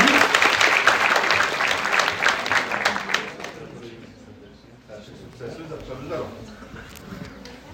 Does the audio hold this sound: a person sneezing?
no